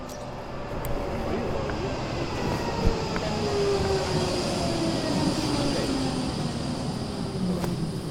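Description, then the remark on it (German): A tram's electric motor and power converter whine steadily over a continuous rumbling rail noise, with tonal hums slowly gliding in pitch, moderately loud throughout. “Und dieses Geräusch von diesem Elektromotor, von diesem Stromumwandler, das ist so vertraut.”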